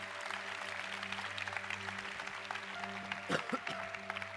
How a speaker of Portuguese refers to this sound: Palmas para Jesus.